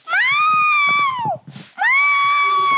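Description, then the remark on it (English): A voice imitates a hungry cat's screaming yowl: two long, loud, rising-and-falling wails separated by a brief breathy pause, with no other talking. “This time my cat screams when it's hungry.”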